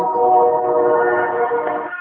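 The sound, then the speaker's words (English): A train beeping with a steady, sustained tonal note that holds for about two seconds, fairly loud, with no one talking over it. “your train's beeping.”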